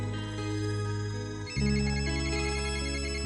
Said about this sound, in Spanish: Teléfono. De madrugada. Pudiera ser a esta hora, un poquito antes.